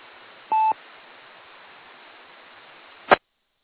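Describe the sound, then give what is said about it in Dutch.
A single short telephone keypad tone beeps once over a steady bed of radio hiss, followed a few seconds later by a brief sharp click, with no voices. “heeft nog druk de telefoon ter hand, volgens mij.”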